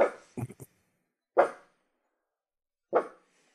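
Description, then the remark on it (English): A dog gives soft, muffled half-barks: a quick cluster of short boofs at the start, then two single ones spaced well apart, not loud. “It's not all the way to being a woof, that is it. It's more of a boof.”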